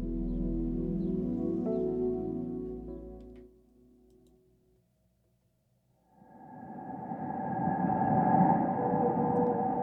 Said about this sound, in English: Let's picture this with the sound of the blue whale behind us. Let's picture it. Picture a creature as long as 3 school buses, weighing as much as 33 elephants. 33 elephants, can you believe that?